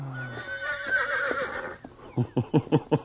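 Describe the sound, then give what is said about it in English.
A horse lets out a loud, wavering whinny, sliding down in pitch before breaking into a quick series of short, rhythmic nickering pulses. “For why you look at Pancho, Senor Horse?”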